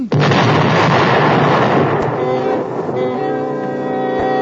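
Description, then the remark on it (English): Loud, dense gunfire and booming artillery from American troops attacking British forces crash together, a continuous roar of shots with sharp cracks punctuating it, then a sustained brassy tone emerges underneath as the volley rumbles on. “Oh, gunfire.”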